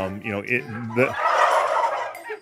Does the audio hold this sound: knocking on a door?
no